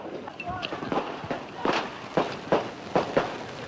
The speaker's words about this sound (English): Some Klansmen and Nazis got out, and then a brawl broke out. Soon, the gunfire started.